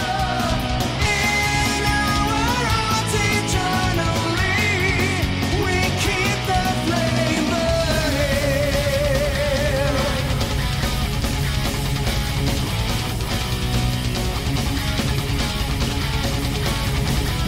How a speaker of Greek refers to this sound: Το έγκλημα αυτό έχει υπογραφεί ΝΑΤΟ, Ευρωπαϊκή Ένωση και Ισραηλινή. Ήταν το σύνθημα που φωνάζαν οι διαδηλωτές όταν έφτασαν έξω από τα γραφεία της Ευρωπαϊκής Ένωσης.